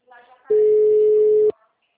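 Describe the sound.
A telephone ringing tone from a phone call being placed sounds once as a loud, steady, mid-pitched hum lasting about a second, after a brief stretch of faint speech.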